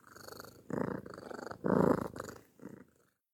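A pet cat named Cilia (short for Sicily) purrs, a rumbling purr that swells and fades in several rhythmic breath cycles, with no voices.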